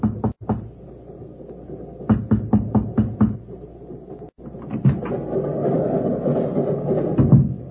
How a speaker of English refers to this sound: I walked up to Mekhanov's section, hesitated, then raised my hand and knocked.